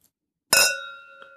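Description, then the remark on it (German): Glasses clink together once in a toast to the Champions League, a bright ringing chime that hangs and slowly fades, followed by a faint second tap. No one speaks. “Und wir stoßen mal an auf die Champions League.”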